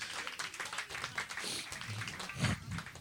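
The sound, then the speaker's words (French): An audience at a live recording breaks into steady applause for the sound technician, dense overlapping claps for a few seconds, with faint voices mixed in underneath. “On peut l'applaudir. On peut l'applaudir.”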